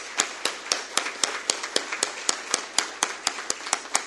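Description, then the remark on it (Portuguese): Applause at a city council session with steady, rhythmic claps, about four per second, standing out above a dense wash of scattered clapping. It keeps an even, moderate volume throughout, with no voices. “Então, hoje, eu peço a todos os senhores, vereadores, e a vocês mesmos, a salva de palmas é para vocês.”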